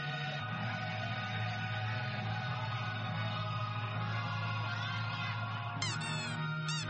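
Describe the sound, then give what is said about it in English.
Loud duck quacking, nasal and buzzy, done by a person quacking several times to entertain an audience during a one-hour event, running almost without pause, with a few higher squeaky calls breaking in near the end. “mixes humor with current affairs while quacking several times to entertain the audience.”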